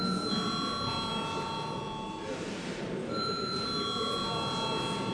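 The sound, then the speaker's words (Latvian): A steady electric parliamentary voting bell rings continuously for several seconds, a bright sustained metallic tone, called before a vote on a bill in its first reading, with faint murmuring voices and background noise underneath. “Lūdzu zvanu.”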